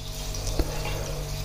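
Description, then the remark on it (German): Sparkling mineral water pours steadily from a bottle into a cup, not filled to the top, a continuous splash and fizz with a brief louder gurgle partway through, no voices. “So, man muss den Becher auch nicht ganz voll machen.”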